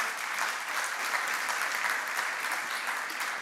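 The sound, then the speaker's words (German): An audience claps steadily for a few seconds, giving God a big round of applause because the technology works: a dense, continuous patter of many hands at an even level with no voices standing out. “Ich würde sagen, wir geben unserem Gott nochmal einen großen Applaus dafür, dass die Technik funktioniert.”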